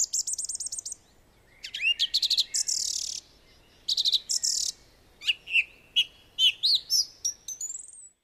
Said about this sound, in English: After a meal of mollusks, the song thrush flies back to the top of a nearby tree and proclaims his territory.